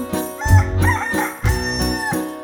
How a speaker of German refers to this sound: und der Hahn auf dem Mist, der kräht Kockelidu, die Dudeli, Dudeli, Dudeli, Du.